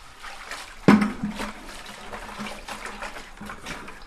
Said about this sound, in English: And when you're mixing mud, you never want to dump in too much water because it's just like mortar mix for brick.